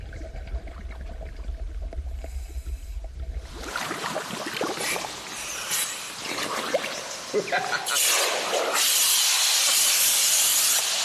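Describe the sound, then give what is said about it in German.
A person with the regulator in their mouth dives slightly and takes a few breaths underwater through a scuba regulator: a low muffled rumble gives way to repeated hissing inhalations and gurgling bubble bursts, growing louder and more continuous toward the end. “Bisschen Luft rauslassen und dann kannst du einfach nochmal ganz leicht abtauchen und einfach schon mal ein paar Atemzüge unter Wasser machen, damit du siehst, wie das funktioniert, ne?”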